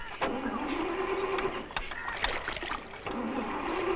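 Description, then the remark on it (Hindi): A car engine cranks over and over without catching, a steady mechanical whirring that briefly stops and restarts, fairly loud. “क्या हो गया है इसे? हमें तो बहुत जल्दी अपने गेस्ट हाउस पहुंचना है। पता नहीं क्या हो गया इसे, अभी तो ठीक थी।”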